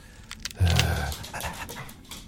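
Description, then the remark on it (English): Rapid panting from dogs, a quick rhythmic string of breathy huffs with a brief low thump near the start. No one speaks. “So all these dogs have been here for years and years?”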